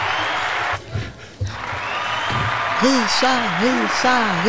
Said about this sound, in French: Allez, attendez, il y a le public qui va vous applaudir aussi.